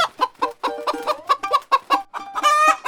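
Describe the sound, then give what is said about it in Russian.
A frightened hen clucks rapidly and anxiously as it runs off, about a dozen sharp clucks in quick succession, ending in a longer, drawn-out squawk. No voices. “Курица в страхе выбежала вон и понеслась, куда глаза глядят.”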